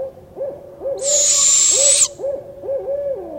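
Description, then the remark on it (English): A long, hissing, rasping screech of a barred owl fledgling's begging call rides over a series of low, rhythmic two-phrase hoots from an adult male barred owl, with no voices. “And finally, here's a fledgling begging call and the male two-phrase hoot.”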